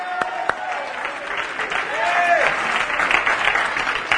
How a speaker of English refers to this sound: Why don't we do that right now? Why don't we clap our hands, all ye people, and somebody shout unto God with the voice of triumph?